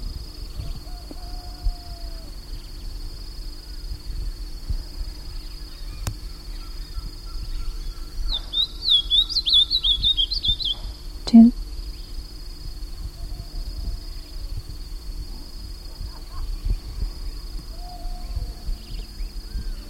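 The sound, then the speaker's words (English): Ultramarine grosbeak alarm notes: a brief flurry of sharp, high chipping calls lasting about two seconds, set against a steady high insect drone and low background rumble, followed by a single click. “That was an ultramarine grosbeak which I saw.”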